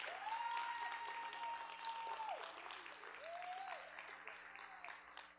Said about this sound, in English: One more time, just put your hands together. You clapped harder at a rap concert. Come on.